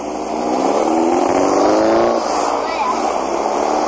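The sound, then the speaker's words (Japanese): The engine of a boxy, open-top classic-style sports car, like those used in old car races, with a 7 on the front, revs and holds a steady, rumbling drone. Its pitch rises through the first two seconds before settling back to a smooth, fairly loud idle-like hum. “そう、これはね、 うん、 クラシックカータイプのスポーツカー。”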